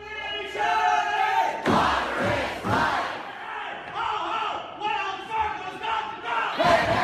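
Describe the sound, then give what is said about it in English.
A crowd of protesters cheers and applauds the Seattle City Council's unanimous vote to divest from Wells Fargo Bank, their massed voices swelling in sustained waves of whoops and yells that rise again in fresh bursts over seven seconds. “The sound of protesters applauding the Seattle City Council, which decided in a unanimous vote to divest its investment activities with the Wells Fargo Bank, which handles about $3 billion a year for the city.”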